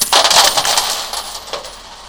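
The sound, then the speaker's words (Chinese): Coins jingle and rattle inside a betel nut bag as it is curiously shaken, a dense burst of bright metallic clinks that loosens into a few scattered shakes before fading, fairly loud. “一下又抓起装着硬币的槟榔袋，好奇地摇一摇。”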